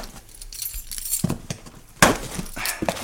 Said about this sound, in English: I'm taking a standard issue box opener, a.k.a. house key. I'm cracking it open here.